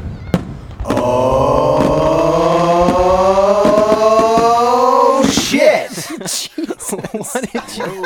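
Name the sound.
firecracker exploding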